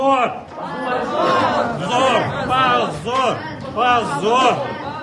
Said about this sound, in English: Memorial's supporters in the courtroom responded with shouts of shame.